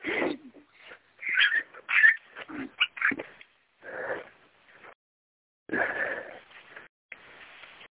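Young puppies on a leash for the first time whimper and yelp in a rapid, shifting string of high cries and whines, with a brief pause before another burst of plaintive whining.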